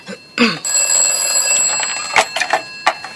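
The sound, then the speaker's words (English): A telephone bell rings loudly in a small office in one sustained, shrill metallic trill, followed by a few sharp clattering knocks. No one speaks. “Who should answer that, Ma? Should I? You are the secretary and the receptionist. You should answer.”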